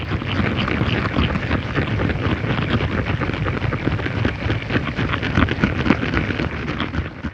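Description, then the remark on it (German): Tadpoles feeding underwater: a dense, continuous crackle of countless tiny clicks and pops, steady in loudness throughout, with no voices. “Ansonsten gab es einfach auch ganz überraschende Sounds, wie zum Beispiel Kaulquappen, die wir aufgenommen haben unter Wasser, wo wir mit dem Sound gar nicht gerechnet hatten, dass wir die beim Fressen belauschen können.”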